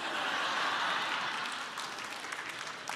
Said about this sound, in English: Come on, where are my party people at? Where are you at? I know you're here. Oh, yeah, they're cheering, just ready to go.